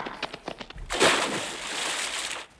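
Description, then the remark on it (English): A few quick taps lead into a sudden heavy splash as something drops into water, followed by a loud, hissing wash of spray that fades out after about a second and a half. “They've fallen in the water.”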